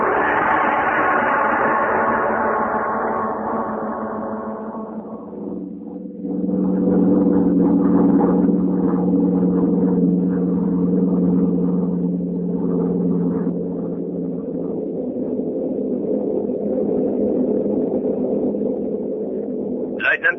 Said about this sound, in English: Tonight we tell you a story about two gentlemen of the German army, the Nazi army. The scene is a bombing plane flying over England.